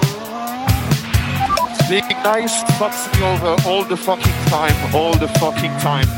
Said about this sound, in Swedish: Ja, varva igång de här motorerna.